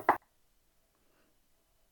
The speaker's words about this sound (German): Und geht zu Laertes Büro. Er klopft an der Tür. Es klopft.